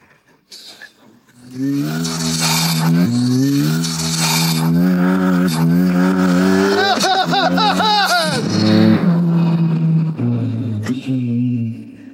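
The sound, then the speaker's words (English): A loud sports car engine revs hard as it accelerates, its pitch climbing and dropping through several gear shifts, then settling into a steady growl. It is continuous for about ten seconds. “This beautiful chorus.”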